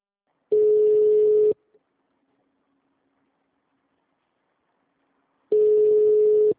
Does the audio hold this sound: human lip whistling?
no